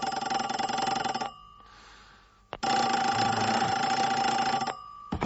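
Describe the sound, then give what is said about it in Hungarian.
A loud telephone bell rings in two long bursts, the first about a second long and the second nearly two seconds, separated by a short pause with a faint click. “A seggembe a telefonotokkal.”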